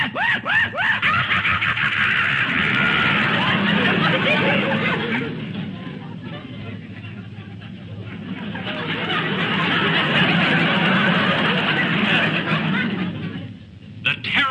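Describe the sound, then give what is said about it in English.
A voice mimics a hyena's maniacal screech: loud, cackling whoops and shrieks that run almost continuously, easing off briefly in the middle before surging again. “The maniacal screech of the hyena.”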